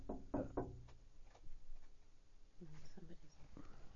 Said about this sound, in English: Just a second. We're pausing here. Someone's at the door.